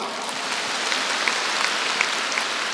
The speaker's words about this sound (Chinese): 鼓掌